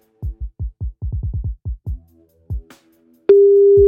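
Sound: telephone busy tone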